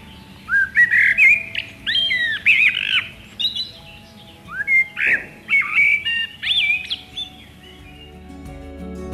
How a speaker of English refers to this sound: Blackbirds and other thrushes, as well as warblers such as whitethroats and blackcaps, will stock up from the hedges. Listen out for the blackbird's call like this.